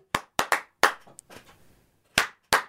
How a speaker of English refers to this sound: That clap was for my whistle.